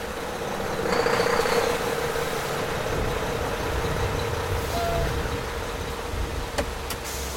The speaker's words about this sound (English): Then a large semi pulled into the emergency lane.